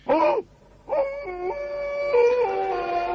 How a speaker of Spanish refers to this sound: no oyó el aullido primero, pero sí el siguiente.